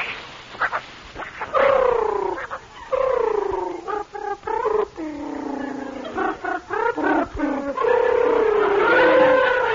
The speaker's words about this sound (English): Come yout! Come yout! Come yout, my pretty kitten! Meow!